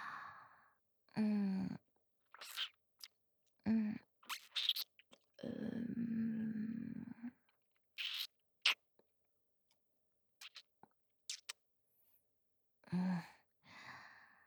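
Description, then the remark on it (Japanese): Wet chewing on spinach, soft squishy mouth sounds in irregular bursts, broken up by breathy sighs and exhales. No one speaks. “僕がお口に加えて、ほうれん草を食べさせてあげますから。”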